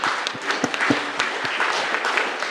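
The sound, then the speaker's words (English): An audience claps steadily, a dense patter of many hands at moderate loudness, with a few sharper individual claps standing out and no voices over it. “So a round of applause to them.”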